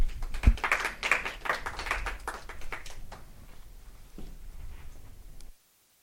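An audience applauds a speaker after a talk and question session, with dense, crackling claps that are strongest at first and then gradually thin and fade before stopping abruptly, with no voices heard.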